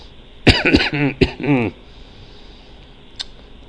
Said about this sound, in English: sorry. Having trouble talking because of the whole cough thing.